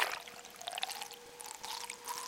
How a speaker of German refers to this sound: Man hört die Klickgeräusche des Schweinswals und wie er zum Atmen an der Wasseroberfläche auftaucht. Es platscht.